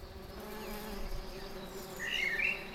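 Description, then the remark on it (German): A steady, dense drone of many honeybees, with dark yellow-greyish rings on the abdomen, buzzing around an open hive, the hum continuous and slightly swelling, with a faint high chirp briefly rising near the end. “Die Bienen haben hinten eine dunkelgelb-gräuliche Ringelung.”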